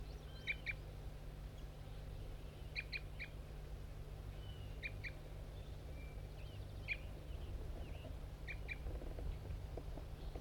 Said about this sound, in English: It looks like I got a male interested in the decoy setup. An orange guy. Stop. Start recording. Bird 5-3 giving aggressive fight notes.